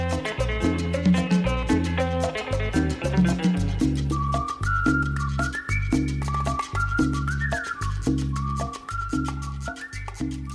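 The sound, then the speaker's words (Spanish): Short, high whistled notes trace a bouncy melody over a steady, bass-heavy musical beat, joining a few seconds in and repeating in little rising phrases. “Los silbiditos os acercan al campamento”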